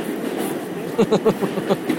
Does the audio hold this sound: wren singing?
no